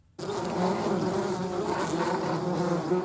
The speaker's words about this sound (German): So klingt es, wenn Wespen ihre Nester bauen.